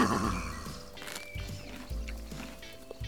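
horse neighing

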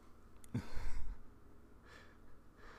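yawn

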